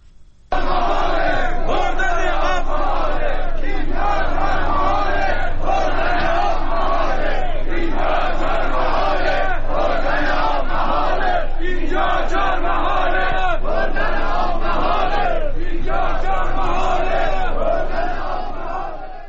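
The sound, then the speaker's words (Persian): A crowd of protesters chants loudly in unison, voices rising and falling in a steady repeated rhythm that continues without pause for the whole stretch. “باز هم صدای بخشی از معترضان را بشنویم.”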